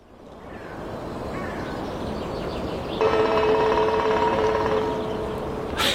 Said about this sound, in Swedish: han skickade en film häromdagen på en spillkråka som har hittat en plåtskylt på en telefonstolpe. Ja, vi kan lyssna på hur det låter när den trummar.